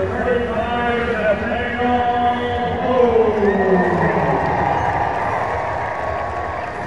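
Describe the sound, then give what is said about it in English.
A large baseball stadium crowd roars and cheers steadily as Nathaniel Lowe comes up to bat, a dense wash of voices with rising whistles and shouts layered through the noise, holding loud for the whole stretch without a pause. “You hear the crowd.”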